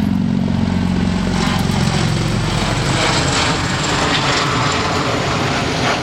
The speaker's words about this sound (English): It's a seaplane. Yeah, that's, wow. That's throwing going to throw your audio out of whack right here. Well, let's let it go right there. Look at that. Wow.